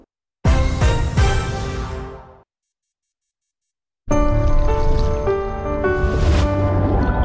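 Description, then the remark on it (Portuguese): Water gushes loudly from a tap in two bursts, separated by a short pause with a few faint high ticks, the flow dense and splashing, with no voices. “Feche a torneira.”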